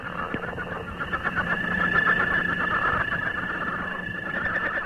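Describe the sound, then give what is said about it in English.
Northern leopard frog calling: a sustained, grating rattle of rapid pulses with a thin, steady high whine running through it, loud and continuous for about five seconds with no talking. “Here's one of my personal favorites, the northern leopard frog.”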